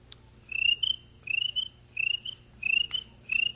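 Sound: crickets chirping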